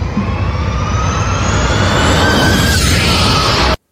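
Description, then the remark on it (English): A race car roars past at full throttle, its loud, rasping engine note climbing and then dropping in pitch as it passes, before the sound cuts off abruptly. “Well, speaking of sound, like, you're the only person that I found any footage at all of this car, and we can hear it go by on this little drive-by.”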